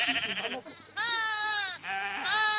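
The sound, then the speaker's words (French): Sheep on a small sheep farm at Notre-Dame-des-Landes, in the bocage near Nantes, France, bleat in a quick series of wavering, nasal cries, several overlapping calls fairly loud, with no talking over them. “Construction de cabanes, élevage de moutons, une vie quotidienne s'est organisée au milieu des bocages nantais.”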